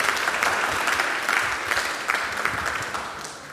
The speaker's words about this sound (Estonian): ja kui te peaksite meil vaatama praegu või järel, siis teeme aplausi rõõmust.